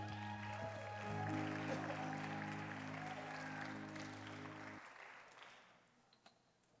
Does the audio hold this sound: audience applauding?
yes